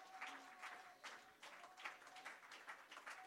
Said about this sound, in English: Let's clap our hands unto the Lord.